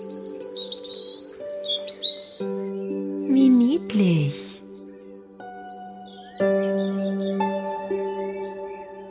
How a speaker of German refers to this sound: Danach zwitschert die Vogelmama auf ihr Kind ein. Was sie ihm wohl sagt?